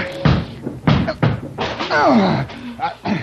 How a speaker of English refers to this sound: Look out. I'm going to break this door down. Oh, it's pretty solid.